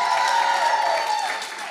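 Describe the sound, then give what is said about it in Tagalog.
An audience claps loudly and continuously, a dense wash of many hands, with a faint tonal hum and some crowd voices mixed underneath. “Lakasan mo yung palakpak mo, Joseph, ha!”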